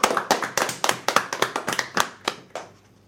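A short round of applause: crisp, sharp claps in a quick, fairly steady rhythm, about fifteen in all, trailing off after a few seconds. No one speaks.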